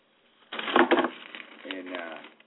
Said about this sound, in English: the noise you hear is me opening the paper.